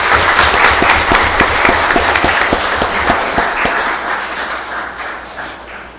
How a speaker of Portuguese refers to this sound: Quero aqui pedir uma salva de palmas para os nossos pastores, pastora, né?